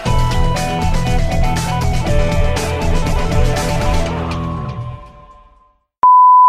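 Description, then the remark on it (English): Busy music plays and fades away, then after a brief silence a single loud, steady electronic tone sounds, a fire alarm chirping, running to the end. “I don't know, but someone's fire alarm was chirping.”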